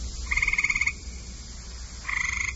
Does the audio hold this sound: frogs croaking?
yes